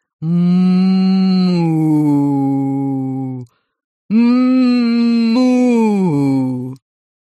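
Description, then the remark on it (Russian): Two long, eerie mooing moans, each drawn out for about three seconds at a low pitch that steps downward, with a short pause between them and no talking, coming out of a kitchen water tap in place of cold water when the tap is turned on. “Кикимора отвинтила краник и подставила под кран ладошки, но оттуда вместо холодной воды послышалось какое-то жуткое мычание.”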